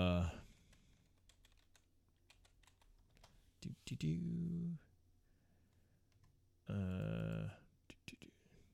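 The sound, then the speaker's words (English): Rapid, irregular keystrokes clatter on a computer keyboard, a steady patter of light clicks broken by two short bursts of voice in the middle and near the end. “I can't type.”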